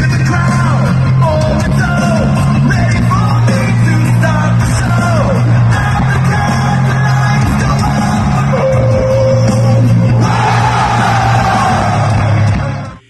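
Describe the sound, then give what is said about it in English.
A huge arena crowd at a show in Monterrey, Mexico screams and sings along to a theme song, thousands of voices merging into a loud, continuous roar over booming music that holds steady for the whole stretch. “Can you describe in words what that moment is like when it's a huge show like that and that all those people are screaming and singing that one line with the whoa, whoa, whoa, whoa, actually?”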